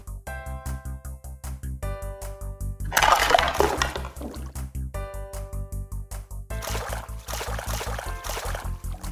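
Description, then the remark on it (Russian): Vegetables being washed in water before cooking soup: a short burst of splashing and sloshing, then a longer stretch of rinsing, all under bouncy, rhythmic background music. No one speaks. “Для начала надо помыть овощи.”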